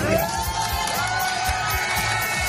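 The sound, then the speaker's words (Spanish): A crowd cheers and claps steadily as Ponsatí leaves a police station after about five hours there, with scattered whoops and shouts rising above a dense, continuous roar of voices that stays loud throughout. “Ponsatí salía hace solo unos minutos entre aplausos tras pasar apenas 5 horas en comisaría.”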